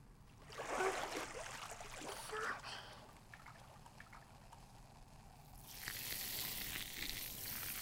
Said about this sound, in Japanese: お兄ちゃん、いつもありがとう。シュワシュワ流すね。